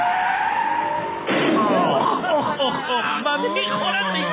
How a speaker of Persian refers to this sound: توی ماشین تصادف شدیدی میکنن.